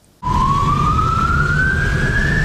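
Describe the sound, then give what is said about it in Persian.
An ambulance siren wails loud, its tone climbing slowly and steadily, as an ambulance carrying a patient wanders the city unable to find a hospital during the coronavirus outbreak, over a heavy rumble of city traffic that cuts in abruptly after a brief quiet moment. “آمبولانس های سرگردان در شهر بیمار دارند ولی بیمارستانی برای پذیرش بیمار نمیابند.”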